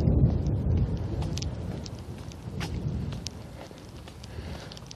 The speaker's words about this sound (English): But there's a thunder shower coming. And I didn't realize this before I left. It's every once in a while I see the lightning flash. There's a rumble of thunder.